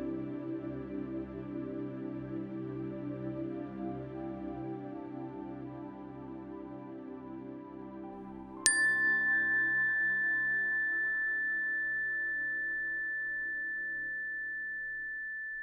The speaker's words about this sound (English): And in a moment, I will ring a chime to signal the end of our practice.